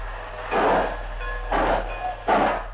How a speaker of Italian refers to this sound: Attenti ragazzi, un treno in partenza.